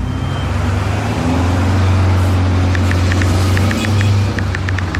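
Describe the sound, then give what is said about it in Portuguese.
A car engine drones low and steady, then a string of short, high-pitched tire squeals starts about halfway through as the car brakes and skids. “Chefe está freando. Chefe está derrapando.”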